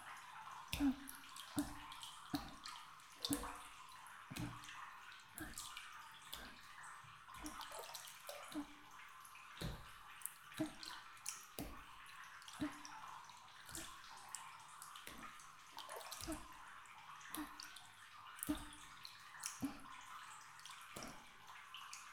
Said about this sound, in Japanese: 軽く叩いていくね。